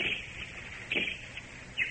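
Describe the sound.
A person imitates a bird call as a signal in a jungle, with a couple of short, high whistled chirps, about a second apart, fairly faint over a soft steady hiss, with no talking.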